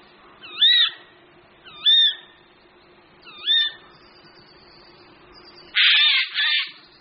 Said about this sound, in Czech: Kromě varovného hlasu je sojka velice dobře známá svými sojčími pírky.